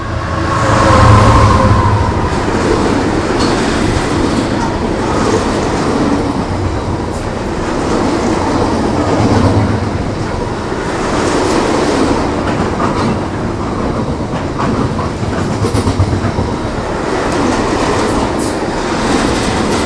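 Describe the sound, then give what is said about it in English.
A very long freight train rumbles past, steady heavy clatter of wheels on rails with a constant low roar filling the whole stretch, no voices. “Freight train.”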